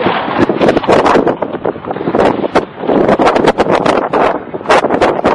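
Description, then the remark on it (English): Loud, constant wind buffets the microphone outdoors in Canada, with gusty roaring and crackling bursts throughout, harsh, with no clear voices. “Fucking windy as hell out here.”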